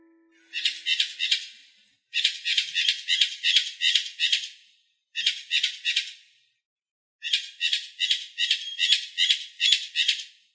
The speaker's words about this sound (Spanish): El sonido sorpresa de hoy fue el de un ave llamado cotorra. La cotorra es una especie que solamente se encuentra de forma natural en la isla Española. Es de color verde, aunque también tiene un poco de amarillo, de azul y rojo.